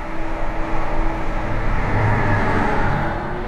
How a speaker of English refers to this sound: There's the train again.